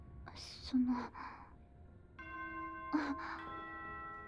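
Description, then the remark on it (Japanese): A school dismissal chime begins partway through, steady ringing tones that sustain to the end at moderate volume, with soft breathy gasps and whispery vocal sounds before and over it. “下校チャイムの予定ってことは、先輩、もうバスが来る時間じゃないですか？”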